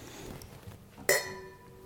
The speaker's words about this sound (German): Irgendwann haben wir unsere Hörer so weit, dass sie wissen, das erste waren die kleinen Gläser und das zweite waren die großen Gläser. Am Klang erkennen, welche Gläser wir haben.